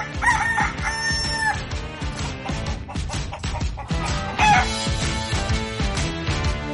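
A rooster crows twice, once at the start and again near the middle, set against loud, busy music in a short, punchy jingle. No one speaks.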